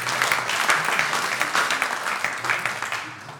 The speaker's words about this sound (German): Ja, ein Applaus.